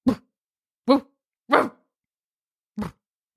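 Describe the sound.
A person imitates a sleepy, relaxed dog with four short, soft bark-like sounds, spaced unevenly with pauses between, sounding drowsy rather than alert, moderately loud.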